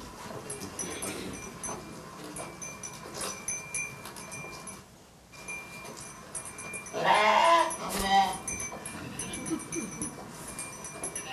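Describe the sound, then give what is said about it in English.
Sheep bleat amid a busy outdoor flock as a bellwether gathers the sheep, with one louder bleat standing out around the middle. Murmuring voices and rustling fill the background throughout. “So I have a brief video here to show you a bellwether in action.”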